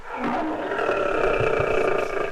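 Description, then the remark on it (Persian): A lion caught in a hunters' trap roars in one long, loud, sustained bellow, rough and throaty, with no talking over it. “ای وای، این نعره های جناب شیر است.”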